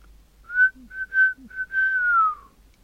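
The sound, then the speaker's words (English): A woman whistles through puckered lips a quiet imitation of a rooster's crow: several short tonal bursts, then a long falling note, with no talking. “Puckering her lips, Zonk whistled a quiet copy of a rooster's crow.”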